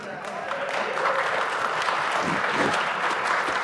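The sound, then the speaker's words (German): An audience claps steadily, a dense wash of many hands filling the whole moment at an even, fairly loud level with no pauses. “Ja, aber ich glaube, ich hätte das ruhig klatschen können.”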